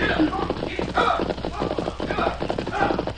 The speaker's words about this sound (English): Me hear hoofbeats on trail. They're coming from the direction of the wagon train.